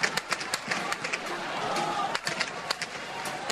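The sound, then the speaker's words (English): Gunfire rings out in Cairo in a rapid, irregular string of sharp cracks, a dozen or more shots in a few seconds, over a steady roar of crowd noise and commotion as crowds run amid clouds of tear gas. “The sound of gunfire in Cairo.”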